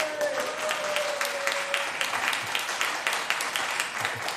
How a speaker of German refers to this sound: Die eine Hälfte klatscht, die andere Hälfte denkt sich genau wie ich.